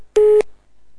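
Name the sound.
telephone busy tone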